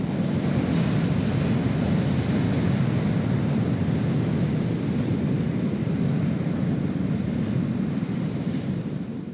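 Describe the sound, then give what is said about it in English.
Rough sea surf at the Hook, near Dunmore East, roars continuously against the shore, a loud, dense wash of crashing waves mixed with gusty wind buffeting the microphone, with no voices present. “So our last piece will be from Dunmore East to Feddart Harbour, and I just said I'd take a drive over to the Hook to see what the sea was actually like. And if you listen in the background, it is unbelievable.”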